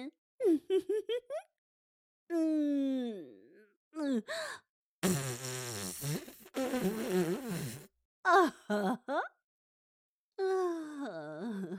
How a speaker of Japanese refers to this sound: 臭いでちゅね。おなら、臭いでちゅね。